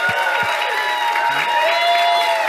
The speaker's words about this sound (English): Thank you. Thank you for applauding me for doing such a good job on that first chapter.